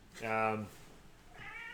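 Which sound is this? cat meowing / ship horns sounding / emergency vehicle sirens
cat meowing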